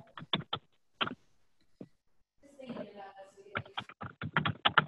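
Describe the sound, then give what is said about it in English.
Loud typing on a computer keyboard: quick bursts of sharp clacking keystrokes at the start and end, with a short stretch of faint, muffled voices in between. “Someone's typing very loudly.”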